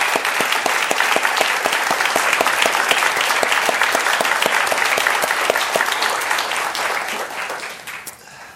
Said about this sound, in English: I think we should begin by applauding this extraordinary man who did this.